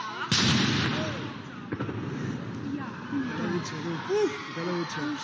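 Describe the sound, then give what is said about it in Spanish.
A single booming explosion from the controlled detonation of a Civil War mortar grenade over 80 years old goes off early, heard from about 30 to 40 metres away. A fainter second crack follows, then the rumble fades under voices chattering outdoors. “resulta que nos están diciendo que van a detonar el explosivo y que tienen que desalojar toda la zona.”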